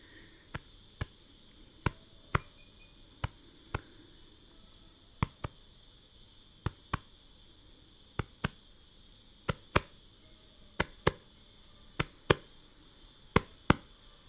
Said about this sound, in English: While cloaks are for men, women and children in our communities, it's only our women who do the ceremonial drumming with possum.